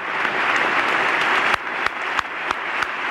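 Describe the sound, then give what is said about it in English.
A crowd applauds steadily and loudly at the 1997 State of the Union address, with several sharp, louder claps standing out at roughly regular intervals near the end, as if one clapper is amplified above the rest. “Now, you'll hear there, you'll hear at the end, you heard that extra amplified clapping.”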